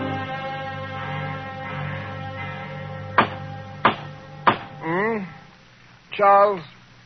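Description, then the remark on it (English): Three sharp, evenly spaced knocks on a door ring out over a steady low hum, followed by two drawn-out vocal sounds like someone calling out. “There's someone at the door. Oh, dear, the bell must be out of order.”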